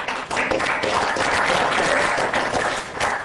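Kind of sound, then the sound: crowd, audience applause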